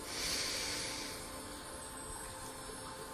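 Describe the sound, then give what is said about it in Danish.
A slow, deep breath drawn in through the nose during a guided breathing exercise, a soft airy rush that swells at the start and then holds steady and quiet for a few seconds, with no talking. “Prøv at tage endnu en dyb indånding helt ned til halebenet.”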